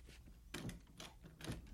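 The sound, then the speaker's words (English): Three steady, hollow thuds fall at an even walking pace: footsteps on the wooden boardwalk outside a bank, fairly soft. No voices. “He was heading towards the front door of the bank when he heard footsteps on the boardwalk outside.”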